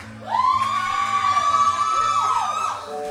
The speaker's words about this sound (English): did you just scream? You did, didn't you? I'm just kidding. I would scream too.